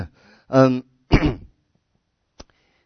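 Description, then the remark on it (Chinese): A fairly loud voiced throat clearing by a speaker giving a sermon on the Book of Hebrews is followed by a sharp, rough cough, then silence and a tiny click. No one speaks. “最近这个咳嗽很多哈，所以每一次我很激动的时候我就咳嗽了，所以我还是不要太激动哈。”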